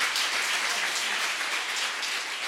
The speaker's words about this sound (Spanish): Quiero que recibamos con un fuerte aplauso